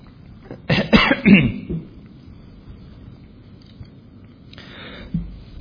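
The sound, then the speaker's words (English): A preacher chokes on water during a sermon: a burst of harsh, sputtering coughs around the first second and a half, followed by quiet breathing and another rougher cough-like sound near the end, with no talking. “Excuse me, I choked on that water.”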